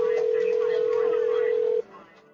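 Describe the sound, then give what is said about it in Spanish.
A telephone rings with one steady electronic tone held for nearly two seconds, loud, then cuts off abruptly. Faint voices murmur underneath. “¿No piensas contestar ese teléfono”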